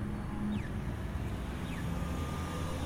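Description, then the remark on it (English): Two short, high chirps sweeping downward in pitch, about a second apart, from an audible pedestrian crossing signal at an intersection, set off by a pedestrian pressing the button, sound faintly over a steady, loud rumble of traffic and wind noise. “Not sure if you're able to hear that little beep, but that was one of the pedestrians pressing the audible signal buzzer.”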